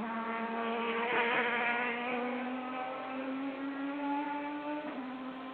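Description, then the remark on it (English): GT race cars drive on a track during a test session on a warm day, engines droning continuously, their pitch climbing gradually, with two brief louder bursts as cars seem to pass. No one speaks. “Well, here we are then with the test session, just about 14 minutes in to the test session with the GT cars out first.”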